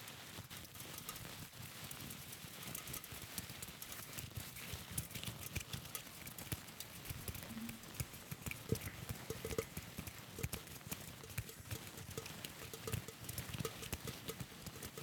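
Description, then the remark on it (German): A steady, dense patter of soft tapping and rustling, a rain sound effect made by flapping a handkerchief, runs continuously for the whole stretch with no talking. “Wir haben es geschafft, zum Schluss Regen zu machen.”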